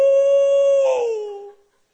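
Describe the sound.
A single sustained, dog-like howl holds a steady mid pitch, then wavers and slides slightly downward before fading out after about a second and a half. No one talks over it.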